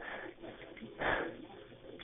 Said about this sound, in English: Hello? One moment. I'm just getting heavy breathing on the phone and I need someone to talk to me, so please send both.